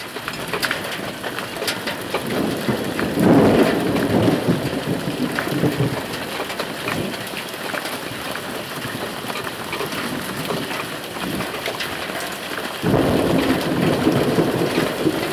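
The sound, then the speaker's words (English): Steady rain patters on an overhead awning over a back deck, a dense continuous hiss with scattered sharper drips, swelling slightly in intensity near the end. No one speaks. “You can hear the rain hitting the awning that I'm standing under.”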